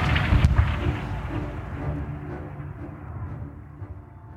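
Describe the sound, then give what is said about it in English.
A loud cannon blast booms early on, followed by a heavy, rolling rumble of battle that slowly fades and thins over the next few seconds, with no voices. Cannon fire and gunshots in a naval battle, the Battle of Cape Passaro, against the Spanish fleet. “And even as his father shakes his head in disgust, John can't keep from trembling, flinching at every cannon's firing, and wincing with every gunshot.”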